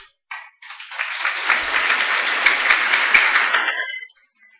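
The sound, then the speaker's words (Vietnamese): Campers at the 2012 summer camp of the Khánh Hòa Provincial Buddhist Association applaud, a dense wash of many hands clapping that starts with a couple of brief bursts, swells into steady loud applause for about three seconds, then quickly dies away. “Những chàng vỗ tay của các trại viên cho thấy nhu cầu tìm về cội nguồn á là rất cần thiết,”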